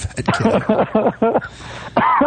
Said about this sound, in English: You're coughing like you're smoking. Yeah, really. What? You're coughing like you've been fucking smoking the pipe. No, I just did my last little training session tonight, and I kind of overdid it a little bit to kind of make sure I was ready.